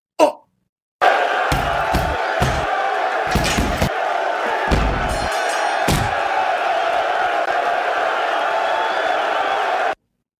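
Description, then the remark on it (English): A short produced sound effect: a quick hit, then a loud, sustained crowd roar and cheer punctuated by several heavy punching thuds early on, cutting off abruptly after about nine seconds. “I thought we were going to go to the watch out for the hook stinger.”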